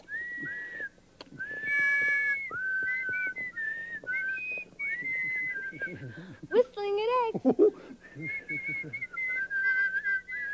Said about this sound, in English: Any cooler? Whistling really works. This egg is really getting cool.